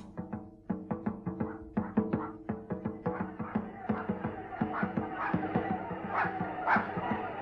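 A small dog barks and yips in a rapid, nearly continuous string of sharp, high yaps, fairly loud, with no one talking.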